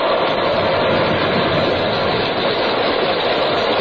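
A loud, steady roar of stormy sea and howling wind in a typhoon around the ship Pequod fills the scene without a break. It is dense, with no voices over it.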